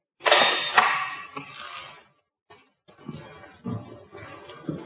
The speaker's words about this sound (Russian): Пропустив Машу вперед, Рыбаков запирает дверь на ключ.